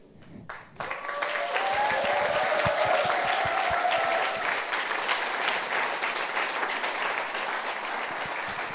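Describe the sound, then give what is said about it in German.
Sustained applause from a sizable church audience farewelling a departing volunteer starts abruptly and holds steady, a dense wash of clapping with a few cheers or whistles rising over it early on. “Der Applaus spricht für dich und das, was du hier geleistet hast und welche Spuren du hinterlassen hast.”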